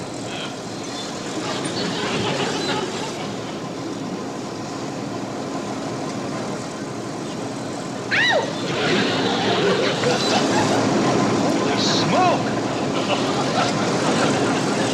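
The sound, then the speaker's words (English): Heavy tractor engines rumble steadily outside in the front yard, a continuous droning roar from several machines that swells slightly midway, with a man briefly exclaiming over the noise. “The front yard's full of tractors!”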